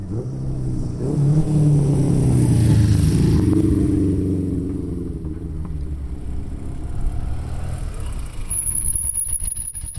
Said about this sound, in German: Uralte Töpfe, wo die alte Gotterpassstrasse Tremola ob sie fahren, und Wespi, also Vespas. Antike Vespas an einem Rennen von alten Motorfahrzeugen, wo an diesem windigen Julitag stattfindet.